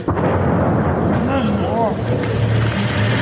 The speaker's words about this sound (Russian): На окраине Горловки под эхо автоматных очередей мирно гуляют люди. Здесь, похоже на такую канонаду, привыкли не обращать внимания. Ладно. Вот так автоматы стручат часто, а вот так вот взрываться, как сейчас, пореже.